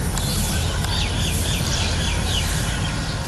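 bird, birds chirping

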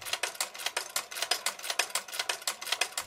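machine, sewing machine running

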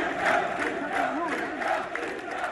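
crowd, protest crowd chanting

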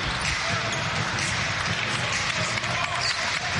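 crowd, arena crowd applauding

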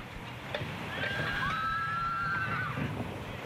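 animal, horse neighing

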